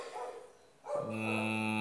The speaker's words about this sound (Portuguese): Ó, o cachorro faz um discurso de ódio, agora fica muito mais alto por conta do eco da porra do quarto.